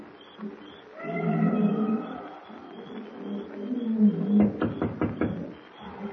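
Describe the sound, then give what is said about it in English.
At night in a matted jungle, a steady insect hum runs underneath as nocturnal wild animals let out long, wavering baying howls, followed by a burst of sharp rhythmic clicking and chattering calls before the hum continues alone. “The matted jungle is alive with the hum of insects and the weird baying of nocturnal beasts as Kent approaches Pango Pete's broken-down shack near the native quarter.”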